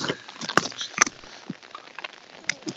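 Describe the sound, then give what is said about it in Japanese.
Raindrops patter irregularly over a soft, steady hiss, with a few sharper, louder taps standing out among the scattered drips. No voices are heard. “この雨粒の音を BGM に。”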